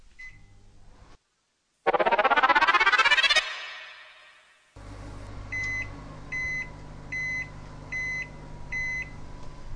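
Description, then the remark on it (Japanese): A 600-watt microwave oven heats pasta in a container for 10 minutes, running with a steady low hum, preceded by a loud whirring surge, then sounds a series of five evenly spaced electronic beeps as it finishes. “茹で時間は製品によって異なりますので、お使いの製品に表示されている茹で時間プラス3分を目安に電子レンジにかけましょう。”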